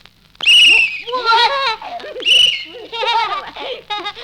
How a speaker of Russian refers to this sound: Такие свистки только у милиционеров.